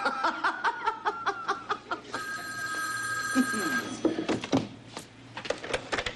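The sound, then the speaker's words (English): A telephone bell rings loudly in a courtroom in a rapid series of metallic strikes, breaks into a steady high-pitched ringing tone for a couple of seconds, then returns to clattering strikes. “Mac, that bell should have been turned off.”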